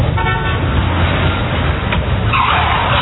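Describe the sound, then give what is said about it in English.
A car roars loudly past on a street, nearly hitting someone, with a sharp tyre squeal near the start and a rising screech toward the end over a constant rumble of engine and road noise. “Hey, you could have been killed by that car.”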